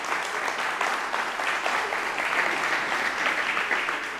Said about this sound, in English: If you've been blessed today, give the Lord a hand clap of praise and appreciation.